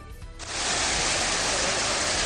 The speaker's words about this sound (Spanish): Este es el sonido que nos llega en este momento desde el pantano de Santomera, que ha comenzado a liberar agua, por lo que el río Segura va a aumentar su caudal